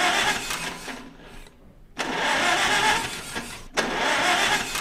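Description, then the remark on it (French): An old diesel tractor engine being restored in a school workshop in Neuvic, Corrèze, France, cranks and catches in repeated bursts as it is started with a freshly cleaned glow plug, a loud, rough mechanical roar broken by short pauses, with no voices. “Une fois que c'est chaud, on peut se passer de la bougie, le moteur fonctionne au diesel.”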